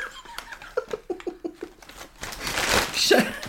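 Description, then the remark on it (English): A burst of rhythmic giggling is followed by loud crinkling and rustling of packaging as a gift of Crocs shoes is unwrapped, continuing to the end, with another short laugh mixed into the crackle. “Let's get rid of the rustling.”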